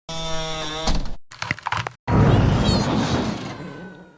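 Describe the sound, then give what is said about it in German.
A short burst of window glass shattering after a tense, tonal build-up, followed by a brief crunchy cracking of bone and then a long, loud roaring explosion that slowly fades. No voices. “Fenster, Knochen, Explosion.”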